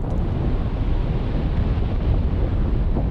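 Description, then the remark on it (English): Field recording by Matthew Bertner of glacier ice melting near Anchorage: a steady, dense wash of rushing, faintly crackling noise over a heavy low rumble, continuous and fairly loud throughout, with no voices. “Matthew Bertner is now working from a cabin near Anchorage where he's recording glaciers as they melt slowly or suddenly fall into the sea.”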